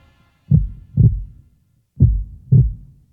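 A deep, booming heartbeat thumps out two slow lub-dub pairs, each pulse low and heavy with a short resonant tail, separated by a brief silence and no voices.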